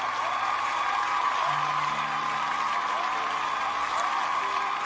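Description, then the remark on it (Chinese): Steady, dense applause for a performer, sustained for about five seconds at an even loudness, with faint tonal hums underneath and no clear voices standing out. “把掌声送给你”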